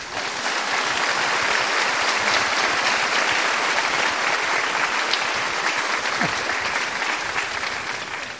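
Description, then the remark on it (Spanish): Sustained applause from an audience for the priest who read the reading, a dense, steady wash of many hands clapping at an even loudness for several seconds, with no voices over it. “que merece un aplauso, que lee muy bonito.”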